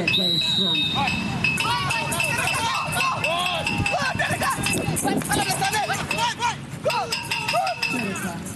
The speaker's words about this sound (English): That is an alarm from a goal used by blind soccer players. The ball is equipped with a bell that rings to alert the players to track its movement and fire a shot towards the goalpost, which makes noise to alert players.